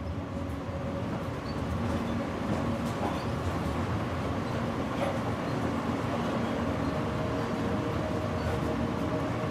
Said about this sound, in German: Der Zug fährt durch die verschlafene französische Landschaft. Der Regen schwindet allmählich. Und was bleibt, ist das monotone Rauschen des Zuges.